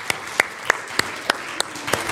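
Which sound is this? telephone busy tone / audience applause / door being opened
audience applause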